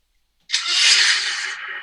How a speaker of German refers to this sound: Und es klang auch, als wenn da irgendein Motor gestartet wurde. Ich mach das nochmal.